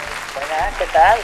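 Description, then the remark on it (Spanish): An audience at the Teatro Flumen applauds in a brief, steady burst of clapping, welcoming actor Salva Reina, star of the comedy Abre Fácil, with high, rising shouts and whoops cutting through the noise toward the end. “Un aplauso para él.”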